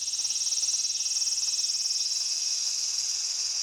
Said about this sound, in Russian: Цикады. Так громко стрекочет, да?